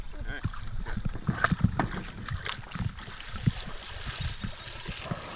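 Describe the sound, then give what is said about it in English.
A canoe being hauled out of a river and carried around a recently fallen tree on a portage, with irregular hollow thumps and scraping knocks over a steady wash of water and wind noise. Faint voices murmur at times. “So we'll have to get out, take the canoe around it, and put it back in.”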